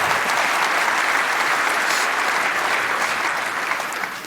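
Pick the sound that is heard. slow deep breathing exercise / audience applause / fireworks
audience applause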